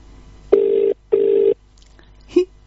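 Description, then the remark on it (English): A phone line ringing at the caller's end as a call is placed to a competition winner: two steady, buzzy tone pulses back to back, then a pause and a brief click-like blip as the call seems to connect. No one talks. “Please ring, please ring. Yes, it's ringing. I think it's going to ring.”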